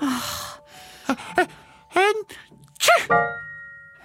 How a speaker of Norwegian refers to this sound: Nei, ni har begynt å nyse nå.